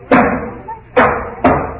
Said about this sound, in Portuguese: um dos meus primos foi buscar um machado e começou a arrombar a porta.